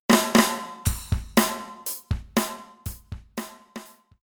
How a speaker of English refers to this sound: He was beating the drum.